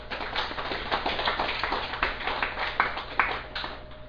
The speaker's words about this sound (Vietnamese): Thành ra như vậy Phật tử chủ nhật sư mình đã biết được chuyện này, cho nên mình vỗ cho một tràng pháo tay.